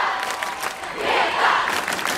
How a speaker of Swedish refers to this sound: Men ska vi lyssna lite hur det lät när Greta Thunberg var ute och talade? Ja. Det här är, alltså en, är det här också ett klipp? Det här är ett klipp, men det här är då hur det lät i publiken när Sveriges enda riktiga rockstjärna presenterar sig.